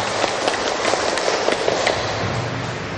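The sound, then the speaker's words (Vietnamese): A large Buddhist audience in Vietnam claps steadily for a few seconds to honor a Venerable monk and dharma lecturer from Cần Thơ, a dense wash of overlapping hand claps, loud and sustained without any voices. “Xin đạo tràng chúng ta cung kính, cho chàng pháo tay để cung kính Thượng Tọa.”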